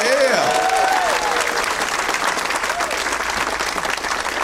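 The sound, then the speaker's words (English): Steady audience applause for the staff at the Punchline, a dense wash of clapping that holds at an even loudness for several seconds, with brief cheers and whoops rising over it near the start. “Let's hear it for all the staff here at the Punchline.”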